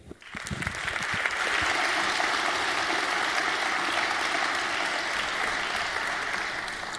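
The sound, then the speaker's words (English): A conference audience breaks into applause for the next speakers, Repdep, Moradek and Kors, before a talk on industrial control systems in power plants; the clapping quickly swells to a steady, dense wash and holds at full strength for several seconds without fading. “So please give a warm round of applause to Repdep, Moradek, and Kors.”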